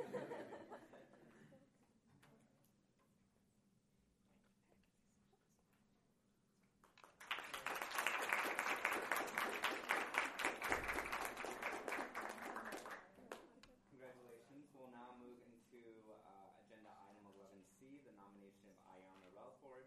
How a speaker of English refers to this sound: Motion carries. And then we'll clap, like you guys said.